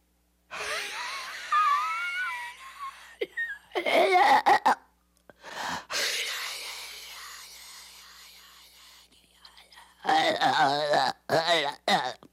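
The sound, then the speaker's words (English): A voice imitates the devil's breathing described in Blatty's book, a strained, rasping breath up close to the microphone: several long, harsh, wheezing inhales and exhales with gasping, moaning edges, separated by short silences. “But Blatty says in the book it had an unearthly sound, the devil's breathing, that could be heard through the open door.”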